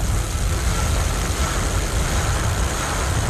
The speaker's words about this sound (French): Est-ce que c'est un peu de circulation qui me parle, là?